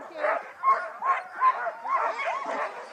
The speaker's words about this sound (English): All right, the dogs are hooked up and they are excited. They are going berserk. They love to run. This is what they do.